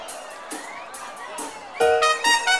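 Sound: crowd shouting and cheering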